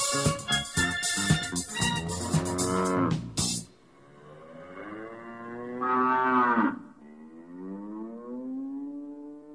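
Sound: cow mooing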